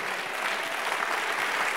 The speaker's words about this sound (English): It's a good place to clap for Jesus Christ. I'm waiting. When you clap, well, I'll continue.